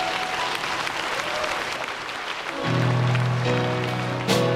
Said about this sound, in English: Would you thank God with a clap offering?